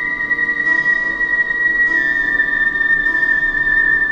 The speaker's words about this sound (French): Le son improbable d'une gabarde, un sifflement léger récurrent, une guitare et un orgue, puis une troisième mélodie aux cordes.